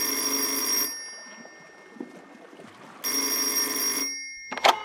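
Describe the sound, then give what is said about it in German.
Two long ringback tones from an outgoing phone call, each steady buzzing ring lasting about a second with a pause between, followed by a brief click as the line picks up. “So, wir rufen ihn mal an.”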